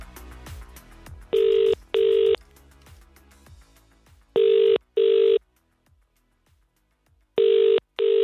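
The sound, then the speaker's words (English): Three double-pulse ringback tones of an outgoing phone call to a restaurant, steady and fairly loud, separated by quiet gaps, with faint tapping music fading out at the start. “Neither of us know who we're going to call.”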